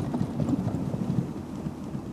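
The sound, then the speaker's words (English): A CityScoot scooter's wheels rattle over cobblestones in Paris, a steady low, bumpy rumble with irregular clattering jolts running through the whole stretch and no voices. “And back to the cobblestones.”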